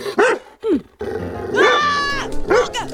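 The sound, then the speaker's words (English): A dog growls and snarls in a few loud bursts while biting a mailman's arm, with harsh rising-and-falling vocal tones and a sustained snarl in the middle before a final short growl. “I see, it's empty because the dog is biting my arm.”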